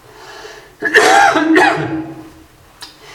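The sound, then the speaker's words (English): A person coughs twice in quick succession, harsh, the second cough slightly weaker, followed by a faint throat noise after a short pause. “So I've got a bit of a cough tonight.”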